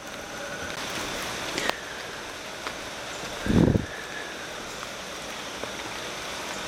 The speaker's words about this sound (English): I'm in nature. And I'm in what's almost like a rainforest. It's raining lightly.